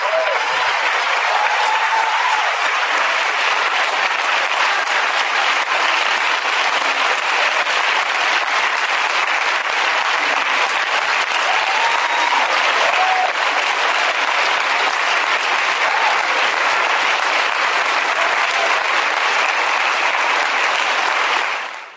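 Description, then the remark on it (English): Sustained audience applause for activist Robert King at an event at Concordia University in Montreal, a dense, steady wash of clapping hands that holds loud and even for about twenty seconds before cutting off at the end. “First, I just want to hear a round of applause for Robert King, who's here with us today.”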